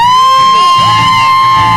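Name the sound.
audience screaming and whooping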